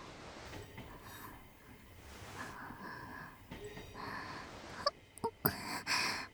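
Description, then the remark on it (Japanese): Steady, muffled rumble of a moving crowded commuter train carriage, a continuous broad hiss with faint rattling, ending in a few sharp clicks and knocks near the end. “あの、ちょっと満員電車でご迷惑かけちゃっていいですか？”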